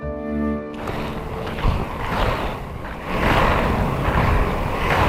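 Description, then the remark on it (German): A short tonal note gives way to the steady, rushing drone of a small motor scooter riding along, its noise swelling louder toward the end. “Mit dem Roller.”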